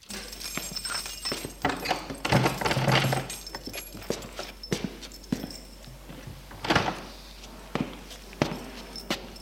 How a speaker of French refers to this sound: Et il ouvre la porte.